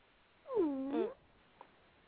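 A single drawn-out meow from a little female alley cat, fairly loud, sliding down then up in pitch over about half a second, followed by a brief faint click and quiet surroundings.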